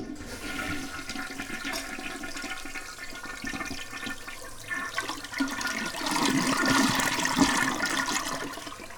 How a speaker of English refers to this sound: To convince my cat that she doesn't need to drink out of the toilet, I just flushed the toilet while she was sort of halfway trying to stand in there.